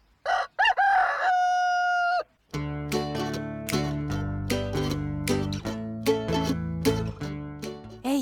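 A rooster crows once, loud and close, for about two seconds, then a bright melodic tune with plucked, bell-like notes starts up and plays steadily to the end.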